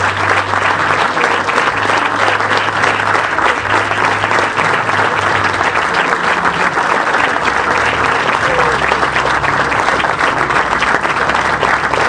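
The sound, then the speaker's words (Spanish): Sustained audience applause in memory of those who lost their life that day, a dense, steady wash of many hands clapping at even loudness for about twelve seconds, with a low hum underneath and no speech. “Un sentido aplauso en nombre y en memoria de aquellos que perdieron la vida ese día.”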